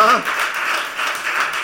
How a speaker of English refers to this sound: Yeah, go ahead and clap enough for him.